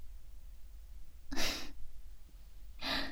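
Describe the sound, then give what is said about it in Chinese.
Two heavy, breathy exhalations about a second and a half apart, fairly loud, like someone panting hard after exertion, with quiet background between them and no talking. “可我看你累得哼哧哼哧直喘气呢，怎么啦？”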